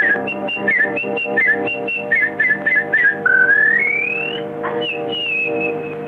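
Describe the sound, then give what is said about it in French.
In a French film scene, a person whistles an imitation of warbler birdsong as a coded signal between the English and the Resistance: bursts of quick trills and chirps, then a long rising glide and a high falling note, over a steady low hum. “Ah non, c'est la fauvette, monsieur.”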